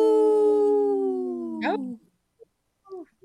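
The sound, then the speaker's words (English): A person on the Native Roots Radio show imitates a wolf howl: one long, steady, tonal note that slowly slides downward for about two seconds, then breaks off with a brief wavering rise and a few soft vocal sounds. “Oh. Howl.”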